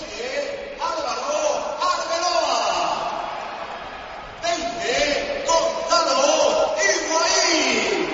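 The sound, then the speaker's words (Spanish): A big stadium crowd roars in a sustained ovation as the team's players, including Coentrão, are announced before a match, a dense wash of cheering that swells near the start and again midway. Loud voices ride on top of the noise throughout. “Ovación tremenda.”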